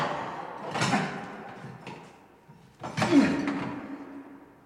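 A stuck door rattles and thuds as someone tugs at it repeatedly, unable to open it, with two heavy bursts of banging and scraping about two seconds apart, fairly loud.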